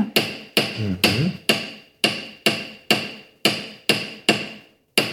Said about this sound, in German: Man kann das auch so ein bisschen Texturen mitmachen mit dem Hammern auch. Wenn du das einfach ausprobieren willst, dann darfst du auch einfach so hier so nicht so hart hammern, aber und dann drehen.